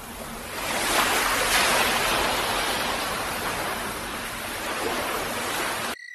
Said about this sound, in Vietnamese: Tôi có thể nghe bao âm thanh hòa nhịp của sóng biển ầm ầm dồn dập, tiếng gió rít vi vu, tiếng lửa nổ vang tí tách, và tiếng hòa đồng hợp xướng của 84.000 con ếch nhái trong cái vũng đầm ở phía sau chúng tôi.